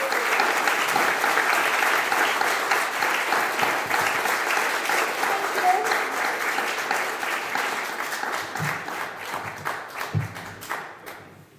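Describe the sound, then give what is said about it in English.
A crowd claps for a young female performer in another round of applause, a dense, continuous wash that holds strong for most of its length, then thins out toward the end into scattered individual claps. “Let's give her one more round of applause, everybody.”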